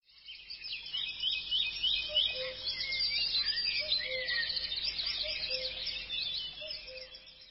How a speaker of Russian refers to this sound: Идет, а вокруг птички поют.